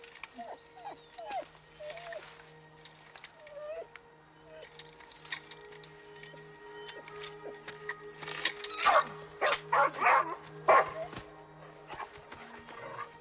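Coco, a female dog in a movie scene, whimpers with short high squeaky calls, then breaks into a few sharp, loud barks, over a steady low tonal hum with no talking.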